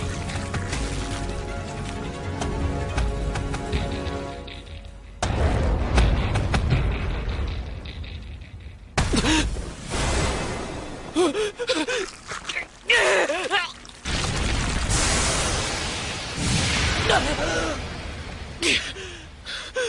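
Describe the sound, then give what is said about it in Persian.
Loud cannon fire and a crashing shell impact, several abrupt booming blasts followed by roaring, rumbling noise, with strained gasps and groans from a voice in between. “تا شنیدن صدای گلوله توپ یادمه، بعدش یه صدای بلند و برخورد و بعدم گرما، الانم داخل یه اسکلت گنده ای.”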